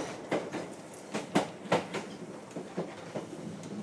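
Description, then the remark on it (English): A train rolls along the rails on the final half mile of a journey into Shrub Hill, with a steady, uneven clatter of wheel clicks over a constant rumble, and no one speaking. “Should just put Vance on a long lead to get off here because the steps can be quite big off these trains.”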